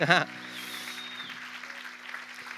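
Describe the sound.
A voice calls out briefly, then an audience breaks into steady, dense applause that keeps going at an even level, with a faint whistle rising above the clapping.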